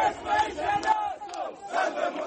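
A crowd of protesters, gathered around the site where a lawyer was killed despite a heavy police presence, loudly chanting the refrain of the election campaign in unison, voices rising and falling in rhythmic phrases with a brief dip before the chant swells again.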